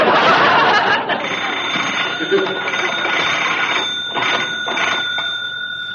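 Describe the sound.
A telephone rings at the Lucky You Ranch with a steady, continuous bell tone that runs under a busy, noisy scene of overlapping voices and movement, holding clearly audible throughout.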